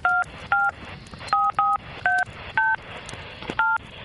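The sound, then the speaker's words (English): A phone number is dialed on a touch-tone keypad to call someone's mom: nine short, clear two-tone beeps at a fairly steady pace, each at a different pitch, with no one speaking. “I need to call my mom.”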